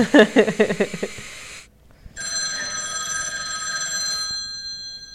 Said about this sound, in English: And then they get the phone call and it's like, Hello, did you just watch a tape?